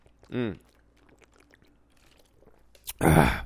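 Someone drinks water in hot weather in Fort Myers, Florida: a short squeaky, wavering sound at the start, faint swallowing clicks and gulps, then a loud, breathy burst of noise at the end.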